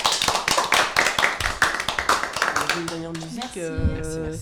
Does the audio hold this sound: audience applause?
yes